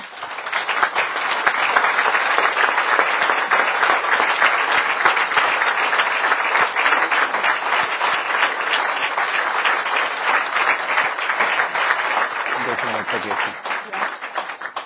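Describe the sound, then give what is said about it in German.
Sustained applause from an audience after an astronomer's talk, a dense steady wash of many hands clapping at a constant loud level for about fifteen seconds, with a brief low murmur near the end. “das war jetzt Ihr Applaus.”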